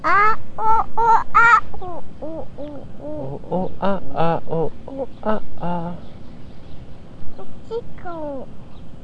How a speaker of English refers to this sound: A bird. You hear birds? I hear birds. Geese. What do the geese say? Tell me about those geese. What do the geese say?